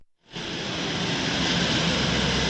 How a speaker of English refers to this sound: The scene at Port-au-Prince airport is busy but chaotic. I saw around 20 relief planes jostling for space in the small unloading area next to the runway.